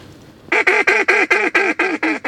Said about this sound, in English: That was a pair of mallards, and this late in the season, they're paired up a lot, and it's hard to call them to convince them to come over here.